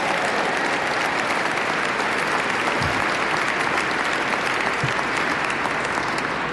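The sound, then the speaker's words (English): Sustained, loud audience applause for a group, a dense and steady wash of many hands clapping at once, holding at an even level throughout with no talking over it. “…, give them another round of applause, please.”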